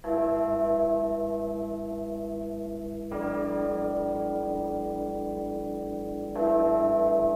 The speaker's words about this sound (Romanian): Clopotele în mijlocul săptămânii.